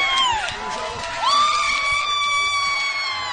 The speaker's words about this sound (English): She's our Miss Double December. And the crowd goes wild.